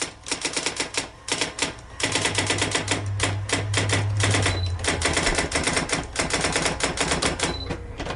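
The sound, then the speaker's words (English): Rapid mechanical typewriter keystrokes clatter in uneven bursts, fairly loud, with a steady low hum underneath for much of the stretch and a few small bell-like pings. No one speaks. “It nicely is a typewriter.”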